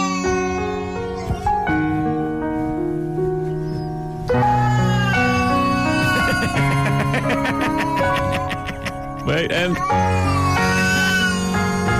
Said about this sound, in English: You may remember before that I've played you things like, say, when a cat makes this noise. But talented people play the piano along with the cat, harmonize it. But they're doing it like this, like.